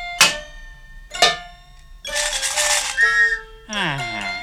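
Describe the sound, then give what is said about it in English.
Two ringing metallic clangs, like a pan being struck, are followed by a shrill whistle blast mixed with clattering household noisemakers, one with marbles inside, then a sustained whistle tone and a final wobbling, sliding toot. “Yeah, and then I blow this whistle.”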